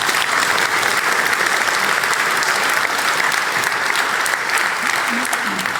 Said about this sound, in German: Applaus für Wonko.